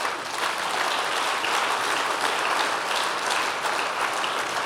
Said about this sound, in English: yeah, we can clap for those guys.